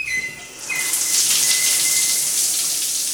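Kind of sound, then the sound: household object, water running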